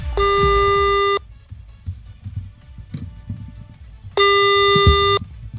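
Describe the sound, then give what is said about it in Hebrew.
Two long, steady electronic ringback tones, each about a second, separated by a pause, the pattern of a phone call to a family ringing while waiting for someone to pick up, the call going unanswered, over quiet background noise. “למה הם לא עונים לנו?”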